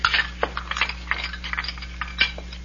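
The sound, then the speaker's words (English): Dirty dishes clink and clatter as they're gathered up to be taken out into the kitchen, a quick irregular run of light knocks and chinks, with a steady low hum underneath and no one speaking. “Might as well get some of these here dirty dishes out into the kitchen.”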